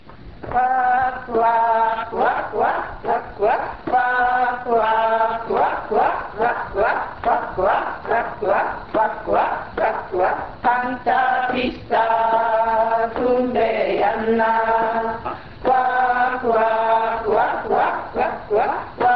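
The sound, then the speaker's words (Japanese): Members of the Shiranuka Ainu Culture Preservation Society sing the Humperimse, a traditional Ainu song about butchering a whale beached on the shore. The chant is loud, steady and rhythmic, with short repeated phrases and strong pulses, and no instruments. “フンペリムセは海岸に寄り上がったクジラを解体する様子を歌と踊りにしました。”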